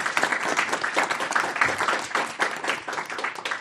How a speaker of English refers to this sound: Let's give them a big hand of applause for their very important work.